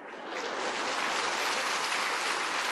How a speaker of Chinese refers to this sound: 嗱，咁啊，讲真，我唔系因为咁而出家噶。嗱，呢啲咁嘅掌声真系，唉。